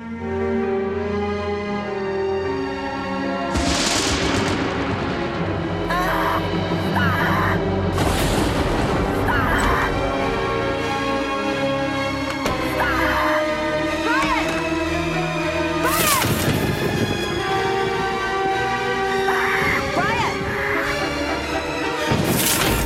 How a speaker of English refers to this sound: Outside, the lightning flashes as a storm moves in.